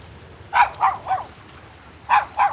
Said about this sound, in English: I started to bark. I tried to tell him I would be their guard dog, protect them from whatever dangers lay ahead.